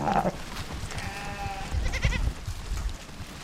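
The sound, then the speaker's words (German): Goats and sheep from a Maasai village herd on the Kenyan side of Kilimanjaro bleat in a wavering, overlapping chorus, one drawn-out call followed by another, over a steady outdoor rumble of moving animals. They are running thirsty toward a river and raising a large cloud of dust. “Ziegen und Schafe laufen durstig an einen Fluss.”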